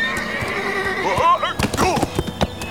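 A rearing horse lets out a loud, shrill, scream-like whinny that rises and wavers as a rifle cracks, followed by sharp snorting bursts and a few hoof thuds as it jumps, agitated.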